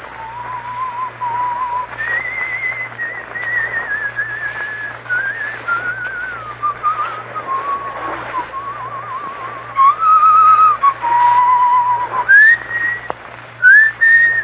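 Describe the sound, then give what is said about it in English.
A man whistles the Scottish folk tune Annie Laurie alone, the clear notes rising and falling in long, slow, lilting phrases over a faint steady hum, with no talking. “He will pass the word Blackstone and whistle Annie Laurie.”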